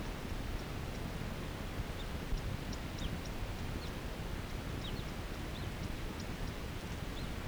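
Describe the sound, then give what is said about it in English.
A male crossbill calling nearby gives repeated short, thin call notes at irregular intervals, fairly faint against a steady rushing background of wind or running water. “So recording, that wasn't a female, that was a male. Right nearby, he's calling.”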